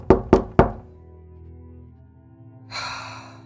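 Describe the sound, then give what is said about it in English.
Three firm knocks on a door in quick, even succession, solid, followed by a short lull and then a soft breathy rush of noise. “I'm just gonna knock on the door with her.”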